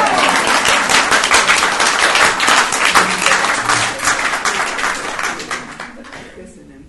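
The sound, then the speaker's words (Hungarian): A crowd breaks into applause for a poet, dense and steady clapping filling several seconds before gradually thinning and fading out at the end. “Jó, csak előbb szeretném, ha megtapsolnák magát.”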